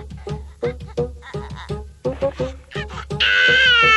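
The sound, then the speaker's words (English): A baby, the cartoon character Lion-O, cries in a steady run of short, choppy sobs, hungry and past his feeding time, then breaks into a loud, high-pitched sustained wail at the end. “Maybe this will stop his crying.”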